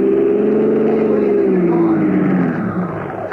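A loud car engine roars steadily as a car is run into the curb, its pitch sliding slowly downward as it strains and then eases off. No voices are heard.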